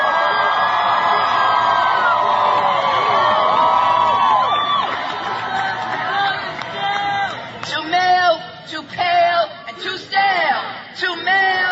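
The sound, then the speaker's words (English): A large crowd cheers and applauds in a loud, sustained roar, then breaks into scattered individual whoops and shouts that rise and fall toward the end. “This is how liberty dies, with thunderous applause.”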